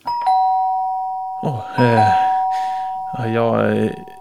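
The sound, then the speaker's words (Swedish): A doorbell chimes twice, each ring a bright, sustained electronic tone that hangs in the air, while a voice speaks briefly between and over the rings. “Jag plingar två gånger.”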